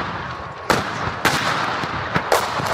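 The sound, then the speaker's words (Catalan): Artillery shelling during an attack: a handful of sharp, booming blasts burst out at irregular intervals, one pair close together, over a constant rushing background roar with no voices. “Ens toca sortir enmig d'atacs.”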